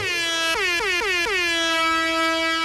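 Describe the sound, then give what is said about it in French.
A loud, brassy siren horn blares continuously, punctuated by four quick stuttering blasts whose pitch dips and settles before the steady tone holds to the end. “Mollo sur la sirène?”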